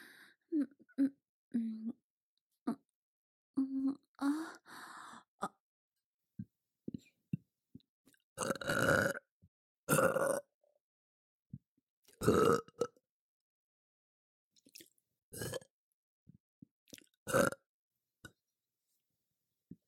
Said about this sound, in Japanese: ゲップ恥ずかしい。